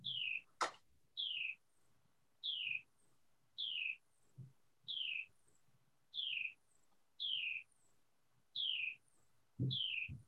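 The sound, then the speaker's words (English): A bird sitting out in a tree repeats a clear, downward-slurred chirp about once a second, nine or so identical calls in a steady rhythm, prominent over faint low background rumble. “Bird is. I just realized it was muted. There's somebody sitting out in the tree.”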